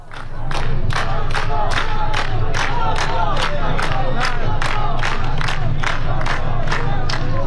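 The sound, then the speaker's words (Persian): A large crowd at a protest gathering in Behbahan, Iran, against the confirmation of a death sentence, chants the slogan "Reza Shah, rest in peace" in unison, voices rising and falling in a steady, regular rhythm of loud repeated bursts over a constant low rumble of the gathering. “رضا شاه روحت شاد از دیگر شعارهایی بود که در فیلم های مربوط به بهبهان به گوش می رسد.”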